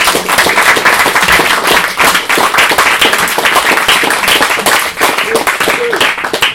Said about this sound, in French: Et je demande encore qu'on les applaudisse bien fort.